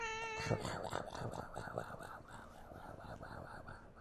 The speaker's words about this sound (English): just because the cat complicated things, always got to get in the show. It's all him. I didn't do that.